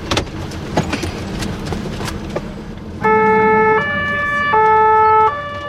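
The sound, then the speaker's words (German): Road and engine noise rumbles for a few seconds, then a loud two-tone ambulance siren kicks in, alternating steadily between high and low pitches as the ambulance drives with blue lights to the university hospital with a patient. “Mit Blaulicht und Sirene geht es ab ins Unispital.”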